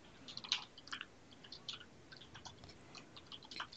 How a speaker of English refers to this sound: Yeah, sorry, if you're hearing typing in the background, that's me typing.